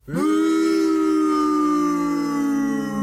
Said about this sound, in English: You know, the sound effect I just put in was boo because it was booing you. Because the boo was because, no, you don't ever cut Chelsea Green.